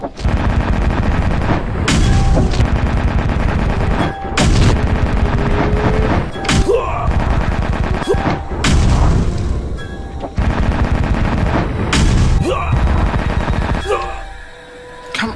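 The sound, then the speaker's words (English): Loud video game cannon fire from a ghost ship's main cannons in a sustained battle, with repeated booming blasts and rapid bursts of gunfire layered over a constant roar, broken by brief pauses between volleys. “You have reached ghost main cannons. Alien position. The battle begins.”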